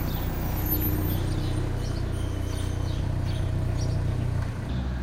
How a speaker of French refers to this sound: Donc on l'entend, les automobilistes mettent un point d'honneur à venir vous saluer, à faire une petite marche arrière à côté de là où on est installé. Vous qui aimez tant le silence et la solitude, je vous laisse apprécier ce petit bruit parasite.